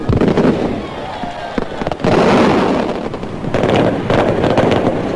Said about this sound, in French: Next night, there was a grand fireworks display on Black Star Square, something for everyone to revel in.